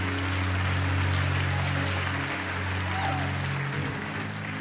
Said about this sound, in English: Come on, clap your hands and thank God.